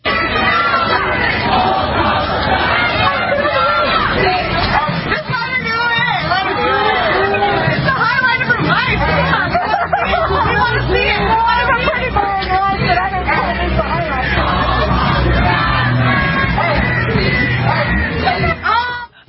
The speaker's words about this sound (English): Okay, she's trying to put out a fire, and she's being mocked, and they're chanting, "All cops are bastards."